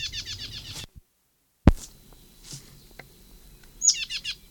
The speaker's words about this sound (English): Plain titmouse. This is the Moline Gate bird, or at least below the transverse roadway.